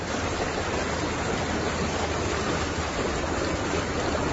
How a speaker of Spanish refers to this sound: Es el sonido de la riada por una calle de Neda, una de las calles de esta localidad, inundando todo a su paso.